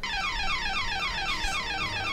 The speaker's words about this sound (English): It's like a loud burglar alarm. Is basically what goes on.